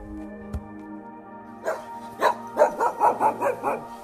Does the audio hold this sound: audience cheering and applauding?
no